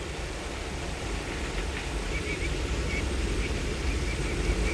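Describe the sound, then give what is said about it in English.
A train rumbles steadily along the tracks as it comes around a curve leading to a bridge, a continuous low, broad roar that holds fairly even and swells slightly as it approaches, with faint metallic tones above and no voices. “Chris and Teddy turn as the train appears on the curve behind them all.”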